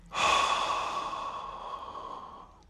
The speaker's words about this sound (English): Just breathe in. Hold that. And breathe out.